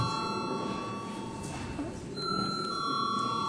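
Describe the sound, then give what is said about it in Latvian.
A parliament chamber bell rings continuously for several seconds before a vote on the Trade Union Law in second reading, a steady electric tone over a low murmur, with no talking. “Deputāti atbalsta priekšlikumu, tad lūdzu zvanu.”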